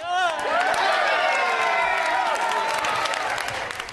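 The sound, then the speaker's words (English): European Space Agency mission control staff in Darmstadt, Germany, cheer and whoop loudly with scattered clapping as the Rosetta spacecraft's signal comes in. High, excited voices overlap in a sustained roar that stays strong for the whole few seconds. “was one of the people cheering”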